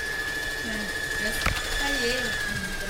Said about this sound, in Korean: 재봉틀이 바쁘게 돌아가고 집안을 꾸미는 다양한 생활용품 만드는 것을 가르치는 홈패션 학원입니다.